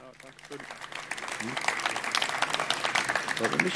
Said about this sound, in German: Bitte einmal Applaus.